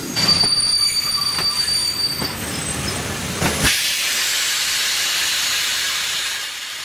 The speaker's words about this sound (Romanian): Atențiune, atențiune! Trenul Orient Express din direcția Istanbul-București sosește în stația Vârgiorova la linia 1. Va gara și va pleca în direcția Paris via Hamburg. Atenție la linia 1!